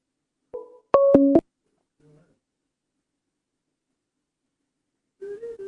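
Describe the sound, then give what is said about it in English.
A short electronic phone ringtone plays through a computer, a quick loud burst of stepped beeping tones with a fainter tone before and after, then silence until a person starts speaking near the end. “Because that's the computer, but my phone's ringing, but I don't know why the computer would be doing something with the phone.”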